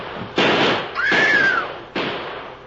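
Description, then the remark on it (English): Three loud gunshots ring out about a second apart, each a sharp crack with a short echoing tail; a whining ricochet follows the second shot. No voices are heard. “Drill him, shoot him.”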